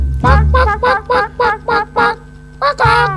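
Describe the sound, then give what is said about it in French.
A chicken clucks in a quick, steady run of about seven short calls, then pauses briefly before two more clucks, fairly loud with no one talking. “Et puis maintenant, un petit poulet.”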